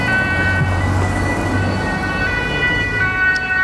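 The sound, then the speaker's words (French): An ambulance siren blares, its sustained electronic tone holding loud and steady over low traffic rumble as the returning ambulance goes past along the banks of the Drance river; no one speaks. “Voilà l'ambulance qui revient. On va la laisser passer.”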